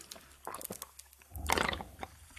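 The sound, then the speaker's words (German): A drink of tea bubbling and gurgling in short, irregular wet bursts, then a louder, longer bubbling stretch in the second half; no one speaks. “Ich hoffe, das hat man gehört, wenn es schön blubbert.”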